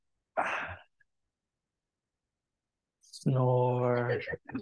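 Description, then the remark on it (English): A voice imitates an old man snoring as he falls asleep: a short, breathy rasping inhale, a pause, then a longer, droning voiced snore that trails off. “Snore.”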